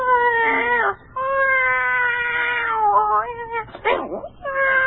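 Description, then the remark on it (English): A cat yowls and meows insistently at night, a series of long, wavering, drawn-out cries with brief pauses between them, loud and unbroken by any talking. “Oh, this cat is behaving oddly as well.”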